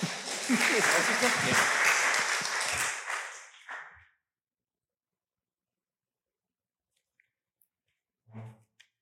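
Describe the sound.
A crowd at a church service breaks into loud, dense applause that lasts about four seconds and then stops abruptly, followed by silence and a brief voice near the end.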